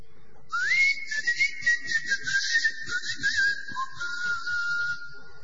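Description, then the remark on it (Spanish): A long, loud human whistle glides up and holds a wavering, modulated tone for several seconds, then drops lower near the end; a whistled call in the whistled language of the island of Tracoda, whose inhabitants whistled instead of speaking. No one speaks. “La única característica de esta isla es que sus habitantes no hablaban, sino que silbaban.”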